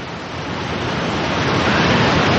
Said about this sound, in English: Wow, where's that noise coming from? That's somebody's air conditioner. Who has their air conditioner on?